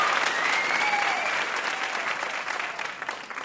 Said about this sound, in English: One more round of applause for our VIP.